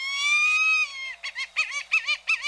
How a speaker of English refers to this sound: The coastal plain of Texas runs from the southern tip of the state to southwestern Louisiana. Here, many tropical species of birds reach the northern limit of their ranges, including this large bird of prey, the white-tailed hawk.